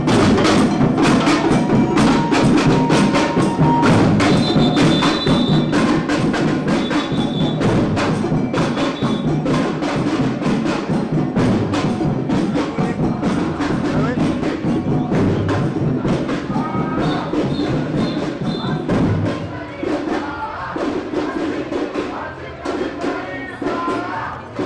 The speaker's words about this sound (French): Derrière, on trouvait un camion de la CGT et une batouk.